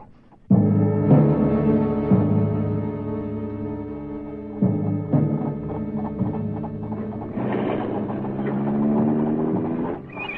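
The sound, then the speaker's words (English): An old motor car belonging to Wilf and Margaret McGregor chugs steadily, its throaty rumble swelling and shifting pitch as it rolls past, with no voices present. “They own a motor car.”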